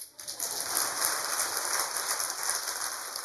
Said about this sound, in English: That's where you clap.